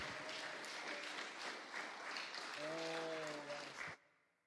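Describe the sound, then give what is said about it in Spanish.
A crowd applauds steadily and loudly for about four seconds as applause offered to the Lord during a morning worship gathering, with cheering voices and a sustained sung or shouted tone rising through the clapping before it cuts off abruptly. “Dele ese aplauso al Señor que está con nosotros esta mañana, bien fuerte.”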